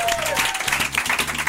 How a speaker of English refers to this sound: And finally, a big round of applause to you, the Gene Divas, because we love you so much. Thank you.